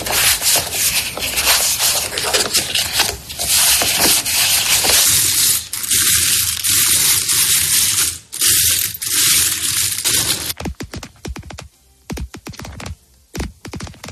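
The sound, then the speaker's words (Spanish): A deck of cards is shuffled with a dense, crackling riffle for about ten seconds, followed by scattered clinks of coins being moved and light, sharp fingernail taps on a table mat. No one speaks. “Mira, el primer sonido era una persona barajando cartas, luego moviendo unas monedas y finalmente golpeando las uñas contra el tapete.”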